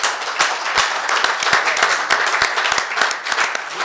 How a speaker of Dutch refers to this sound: Want ze hebben ons ontzettend in dit traject ondersteund. Het was een bijzonder traject het afgelopen jaar. En dat verdient zeker een applaus. Mag ik?